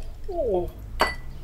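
whisky glass clinking

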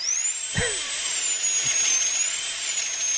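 dentist drill whirring

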